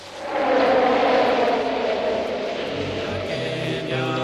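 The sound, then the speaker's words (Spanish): A strong wind roars in steadily after a brief swell, a loud, continuous rushing gust that holds for several seconds without any voices. “El viento sopló.”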